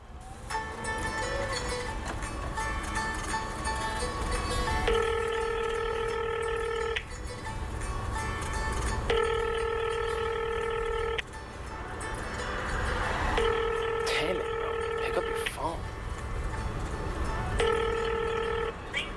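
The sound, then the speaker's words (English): A telephone rings out in repeated steady tone bursts, about four cycles with pauses between, going unanswered over a constant low rumble like a car interior. “No one ever picks up the phone these days.”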